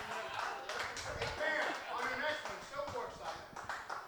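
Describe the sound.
A small group claps in a brief, uneven burst of applause, the sharp hand claps overlapping at a moderate level while voices chatter and call out underneath.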